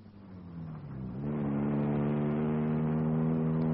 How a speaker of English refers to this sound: I got in my car and drove at a high speed. I didn't know where I was going. I just drove.